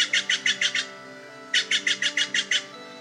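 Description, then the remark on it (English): Steller's jays call while flying all around the area, in two quick bursts of harsh, rasping notes, about six rapid repeated calls each, loud, with a pause between bursts and no talking. “While I was preparing to try the trick, Stellaris Jays were just going off, flying all around the area.”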